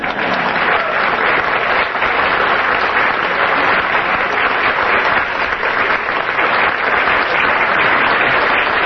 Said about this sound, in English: They're clapping louder than you are, guys.